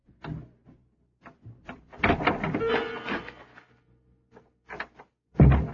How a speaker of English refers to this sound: The little office of the Neptune Trading Company is right next door to the warehouse, and the door has a very old-fashioned lock. So, I take the opportunity to let myself in.